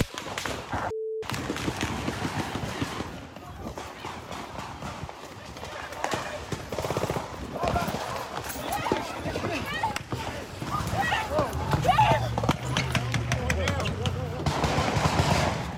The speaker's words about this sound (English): The popping sounds, gunfire mixed in with automatic weapons fire. The gunfire went on for about 32 seconds. First reports say about 100 rounds were fired, but police accounted for 181 shell casings from both handguns and rifles.